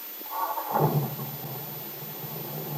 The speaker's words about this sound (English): Now, as they get into the new car, Bill starts the motor. Listen, Peggy.